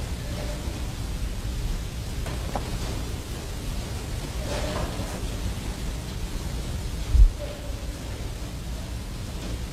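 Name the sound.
rain falling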